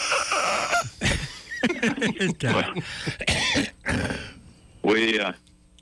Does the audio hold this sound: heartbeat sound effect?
no